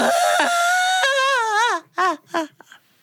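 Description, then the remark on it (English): A voice imitates Turtle, a story character, whining and crying: a long, wavering, high-pitched wail that bends and falls, followed by two short sobbing cries and a faint trailing whimper. “And Turtle was making his way through the woods, but he was sniffling and snuffling. He was whining. He was pouting. He was fussing. He was crying.”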